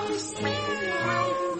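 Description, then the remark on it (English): A cat gives one long, drawn-out meow that wavers in pitch, fairly loud, with no talking around it. “We dancing cats on four legs. Cats.”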